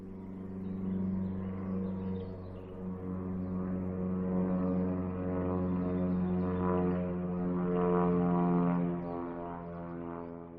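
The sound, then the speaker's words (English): An airplane flies over a park with a steady, low, humming roar that swells gradually to its loudest near the end before easing slightly. No voices are heard. “That's an airplane flying over the park, like one you might take when going on a trip.”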